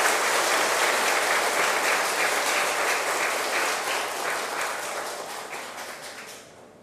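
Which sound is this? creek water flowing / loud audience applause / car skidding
loud audience applause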